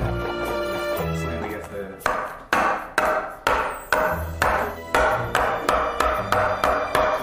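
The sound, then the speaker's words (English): A bag of milk is thumped against a counter about a dozen times, sharp dull knocks that start slow and speed up into a quicker, steadier rhythm after a couple of seconds of background sound. “What you gotta do is hold it up and you gotta bang on the counter a few times.”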